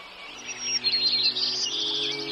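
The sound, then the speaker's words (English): Birds sing in a lively overlapping chorus of high chirps and warbles, steady, with no voices present. “This spring, go out and delight in their song.”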